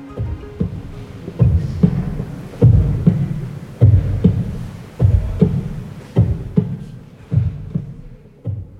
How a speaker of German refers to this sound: Aufgenommen ist dieser Herzschlag in Ihrer Ausstellung in Abwesenheit. Dort übertragen Sie in einem großen überdimensionalen Ring von Lautsprechern Ihren Herzschlag in Echtzeit.